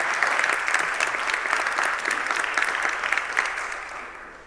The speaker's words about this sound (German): Bitte einen großen Applaus für Tim Philipp Schaefer.